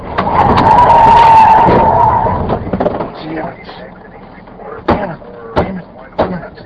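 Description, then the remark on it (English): Loud tire squeal as a car that has run a stoplight skids and swerves for about two seconds to avoid another car, then engine rumble and a few sharp knocks or clunks toward the end; recorded by an in-car camera. “In this clip provided by DriveCam Incorporated of San Diego, a driver runs a stoplight, then swerves to avoid another car.”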